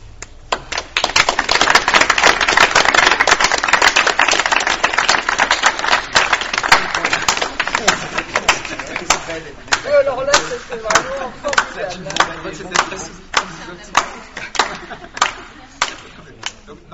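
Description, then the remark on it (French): An audience, asked to clap in synchrony, applauds, first as a dense, loud, scattered wash of clapping, then gradually falls into a steady rhythm of sharp, unified claps repeating about twice per second. “Donc, ce qu'on va faire ensemble pour avoir l'expérience émotionnelle de ce que c'est qu'un système complexe, je vais vous demander d'applaudir de façon synchro.”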